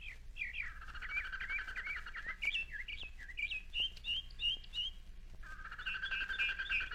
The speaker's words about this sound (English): And here are the beautiful birds.